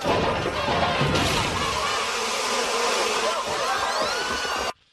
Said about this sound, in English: And then they tip over the truck and a crate labeled Killer Bees come swarming at the crowd.